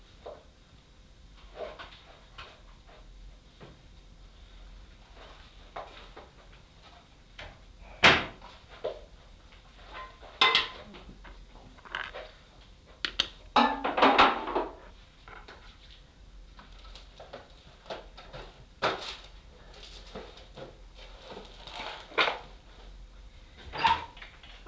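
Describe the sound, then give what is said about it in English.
Drawers slide open and bang shut several times at irregular intervals, with sharp knocks and wooden rattles, a louder cluster of clatter in the middle. “Yeah, shut the middle one because of the dog. He's all right. He's not, he'll be out like a light in the drawer.”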